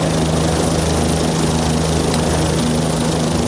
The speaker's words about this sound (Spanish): Los helicópteros de los Delta Force, la élite de la élite, en Estados Unidos, llegaban al complejo donde Maduro y su mujer supuestamente dormían.